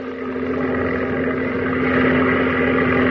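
A steady, droning propeller engine of a lone Zero fighter plane hums with a strong low tone and buzzing overtones, growing slightly louder over a few seconds, with no voices.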